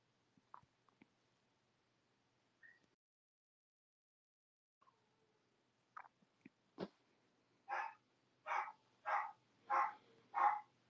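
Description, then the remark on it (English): A few scattered clicks and faint knocks, then a dog starts barking in a steady run of five loud, evenly spaced barks, growing stronger toward the end. “They are barking so much.”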